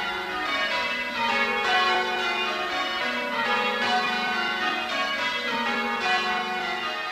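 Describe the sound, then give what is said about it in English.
Church bells of St. Stephen's Church in Brannel, Cornwall, peal continuously from the tower, heard outside, rung to start the Olympics; overlapping rings in a steady cascading rhythm, loud and full with no voices over them. “Now, just moving outside so we can hear the bells in their full effect.”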